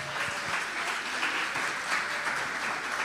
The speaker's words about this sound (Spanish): Pasen aquí arriba. Vamos a darle un aplauso a esta pareja.